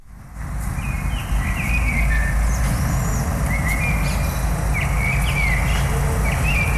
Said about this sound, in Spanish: es un pajarito, un mirlo, creo, ¿no? Lo es.